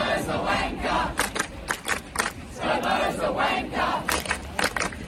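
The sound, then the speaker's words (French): A large protest crowd chants in unison a slogan calling Scott Morrison ("Scomo"), the Australian prime minister, a wanker, loud, the rhythmic shouted phrases repeating over a continuous roar of many voices. “Scomo est un branleur, voilà ce que chante la foule.”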